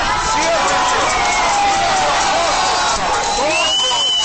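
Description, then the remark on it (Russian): A large, agitated crowd of protesters at a rally addressed by Boris Nemtsov surges forward to storm the closed doors of a Sedmoy Kontinent store, dozens of voices shouting and clamoring over one another in a dense, continuous roar, with scattered raised yells cutting through the steady commotion. “Толпа направилась на штурм закрытых дверей.”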